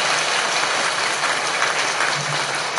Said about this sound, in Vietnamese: Xin quý vị hãy dâng cao một tràng vỗ tay để chuẩn bị lắng nghe.